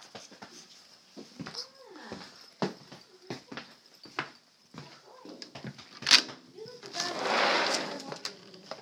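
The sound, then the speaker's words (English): A puppy whimpers softly in a few short, rising-and-falling whines, scattered among clicks and shuffling, with a longer burst of rustling noise near the end. “Hi, puppy.”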